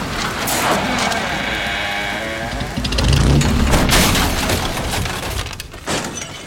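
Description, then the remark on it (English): A burning car roars with a dense, steady crackle, then a heavy booming burst swells partway through, followed by sharp cracks and popping as the blaze continues loudly. “Young car's on fire!”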